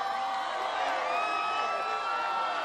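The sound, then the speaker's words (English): A large crowd cheers loudly and continuously, a dense wash of shouts, whoops and voices with steady, excited energy throughout, welcoming President Obama at La Paz, the former United Farm Workers headquarters in Keene, east of Bakersfield. “An enthusiastic crowd welcomed the president as he echoed the labor leader's signature, "Yes, we can."”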